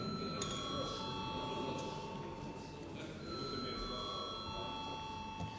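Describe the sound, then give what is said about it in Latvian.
A parliamentary voting call bell rings steadily for several seconds before a first-reading vote on amendments to the national security law, a bright sustained electric ringing over a low murmur with faint background voices. “Lūdzu, zvanu.”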